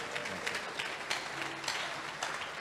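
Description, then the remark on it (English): Scattered hand claps, a handful of soft, uneven smacks spread over a few seconds against a steady background hiss, fairly quiet and with no one speaking. “clap for me small now.”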